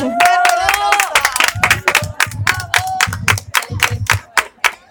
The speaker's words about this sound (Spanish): Fuerte, fuerte, fuerte el aplauso